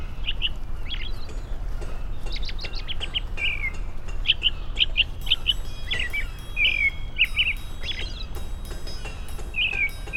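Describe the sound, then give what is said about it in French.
A robin sings a rapid series of high, thin warbled phrases and trills, bright and fairly clear over a steady low rumble, with short pauses between bursts. “Sans doute il est tard, car voici qui vient auprès de moi chanter mon rouge orge.”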